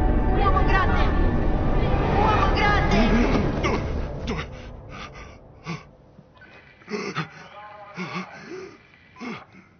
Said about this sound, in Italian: Stai bene. È solo un attacco di panico. Rallenta il respiro. Conta fino a 10.